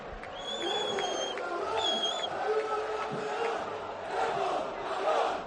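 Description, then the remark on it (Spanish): The team's players, gathered on a balcony, chant and shout together in a steady, continuous roar, the first chant referring to Depor, with two shrill whistle-like tones cutting through during the first couple of seconds. “¿Eso quién lo está gritando? Creo que son los jugadores propiamente, ¿ya?, los que lo están haciendo.”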